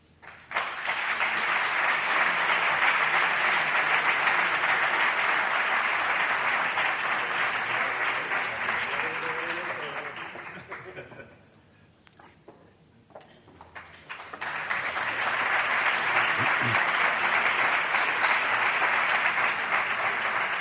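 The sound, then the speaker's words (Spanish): Sustained applause from a large audience at an award ceremony in Granada as a prize is presented, a dense, loud wash of clapping that dips briefly midway to a quieter lull before swelling back up at full strength. “Por cierto, creo que merece un aplauso.”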